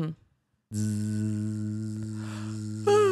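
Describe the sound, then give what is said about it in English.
A person imitates the buzz of a tattoo needle with a steady, droning vocal buzz, fairly loud, holding one pitch for over two seconds after a brief pause, with a slight rise near the end. “Will you be the needle? I don't know what it sounds like, but I can try. It sounds like a buzz.”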